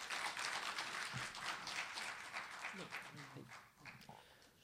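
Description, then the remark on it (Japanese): Steady audience applause for speakers who have just left the stage near the close of an event on education, many hands clapping together in a dense, continuous wash that stays loud for several seconds before easing slightly, with a few faint voices mixed underneath. “退場されましたけど、改めましてもう一度盛大な拍手をお願いいたします。”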